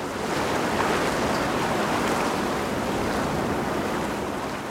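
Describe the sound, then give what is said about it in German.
Steady rushing water fills the scene, heard on a ferry from Manhattan to Staten Island: a broad continuous wash like waves churning past the moving boat, with a faint windy hiss and no voices. “Jetzt hört man langsam ein bisschen Wasser und man hört vor allem weniger.”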